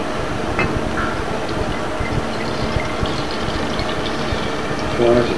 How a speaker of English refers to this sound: the fly flew into the bottle of milk. Does that ruin that bottle of milk? No. How do I get rid of it? Fly! I'm going to pour it.